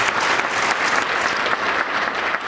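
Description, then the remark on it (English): Steady, loud applause from an audience for the panelists of the KSKA program Addressing Alaskans, a dense wash of many hands clapping without pause for the whole stretch, with no voices over it. “Well, please join me in a round of applause for today's panelists.”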